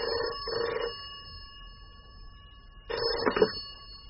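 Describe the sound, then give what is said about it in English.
A telephone rings in two bursts, the first a quick double trill and the second after a roughly two-second pause, with a bright buzzing bell tone at moderate volume and no voices. “Lasky received a phone call.”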